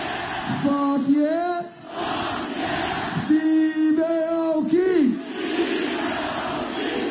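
A large concert crowd roars with sustained yelling and cheering, loud and continuous, with individual voices rising into long sung-out shouts in two big swells before settling back into a dense wall of noise, as the audience screams in response to the performer's calls to scream and say hell yeah.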